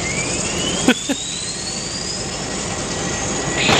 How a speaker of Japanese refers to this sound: そういうことか。エンジンを始動して噴射する瞬間が聞けるわけだ。